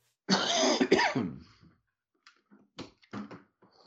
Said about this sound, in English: Cut that last cough out.